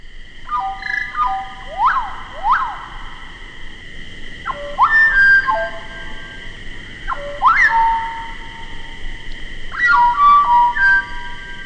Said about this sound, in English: Chapman's choice for the most beautiful bird song of all comes from the Mexican cloud forest, the slate-colored solitaire. To fully appreciate the song, Chapman suggested that it be slowed so the notes can be heard more clearly.